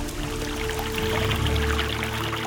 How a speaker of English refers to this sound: Soon, it starts to rain. The rain makes a small stream.